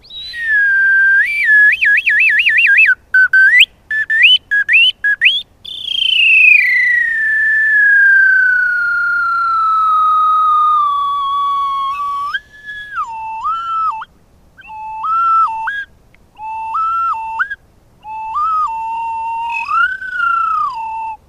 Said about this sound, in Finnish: Pillit sen kun pitenee ja kaiken näköistä, oi, nyt on jo liikkuvat osat kädessä. Tätä minä sanon taikahuiluksi, jotkut puhuu arkisemmin mäntäpillistä.